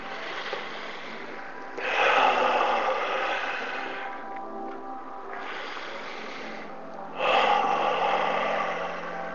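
Slow, deep breaths drawn in and let out in long, airy rushes, about three breath phases over several seconds, fairly loud with soft hiss between them and no talking.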